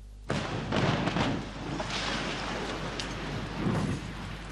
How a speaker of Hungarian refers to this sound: Teljesen oda hátra kell menni, itt nem lehet tartózkodni. Miután mindenkit biztonságos távolságra küldtek, robbantottak.